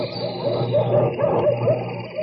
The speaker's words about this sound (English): That's the way dogs react even to the sound of dog yummies.